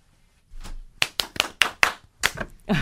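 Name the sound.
hand clapping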